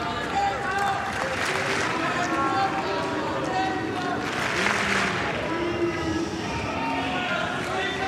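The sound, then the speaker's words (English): A tennis stadium crowd boos steadily for several seconds during a match, a loud, sustained wash of many low voices with swelling surges and a few whistles rising above the din. “Not sure why there's booing.”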